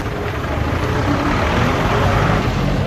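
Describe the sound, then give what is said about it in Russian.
Steady, dense street ambience on Uispu (Obispo), the central street of Old Havana, Cuba, with a constant rumble of engines and traffic noise at an even, fairly loud level throughout, with no distinct voices standing out. “Уиспу – это центральная улица, самая центральная улица в Старой Гаване.”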